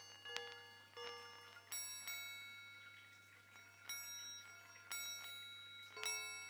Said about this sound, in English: Sounds like it. Sounds like an alarm clock thing.